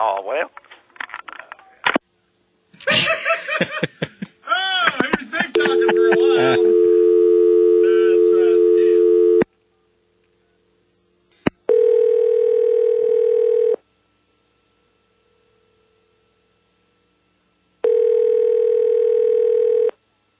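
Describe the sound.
A voice speaks briefly, then a steady electronic telephone dial tone hums for a few seconds after the call is disconnected, followed after a pause by two more loud, even tone bursts separated by silence.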